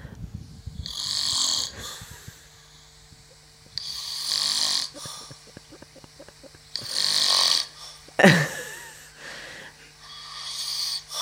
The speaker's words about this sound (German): Ja, das warst doch nicht du. Doch, natürlich. Du schnarchst doch nicht. Na, aber wie ein Bär.